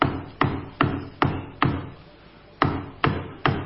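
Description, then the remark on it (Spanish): Someone hammering below a first-floor window around 7 or 8 in the morning, in a courtyard with cobblestone paving: four evenly spaced strikes, a short pause, then three more, each with a brief resonant decay, heard alone at moderate volume with no voices. “Abajo alguien estaba martillando.”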